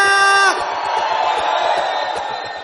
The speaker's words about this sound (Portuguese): Cadê o grito da rapaziada?